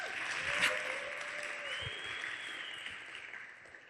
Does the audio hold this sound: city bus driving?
no